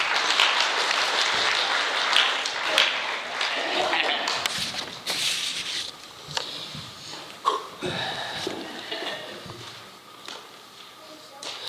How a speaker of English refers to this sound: So without further ado, let's get them up here and give them a round of applause.